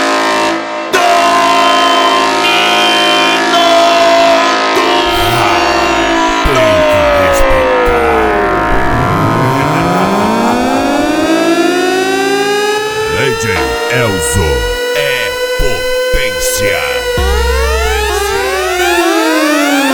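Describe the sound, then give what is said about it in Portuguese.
A loud LTS horn siren sound effect, a "corneta do racha", blares continuously, its pitch swooping down and back up in long sweeping glides, layered with harsh overlapping tones and no talking. “LTS, a corneta do racha.”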